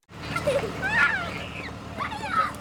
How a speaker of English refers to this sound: Kids run through cold rain toward idling buses as school lets out in the Ralls County School District. It's freezing! About 800 students attend this rural district in Northeast Missouri.